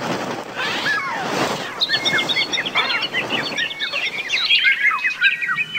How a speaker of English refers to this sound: Oh man, birds are the worst. They're the worst broadcast animals. They're high-pitched, they're constant, they don't stop. Birds are just the worst.